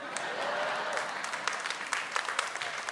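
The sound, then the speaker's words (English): Scattered audience applause, a crowd clapping at moderate volume with dense, irregular hand claps that thin out toward the end, with no voices over it. “Those of you that half clapped, you're the lukewarm ones.”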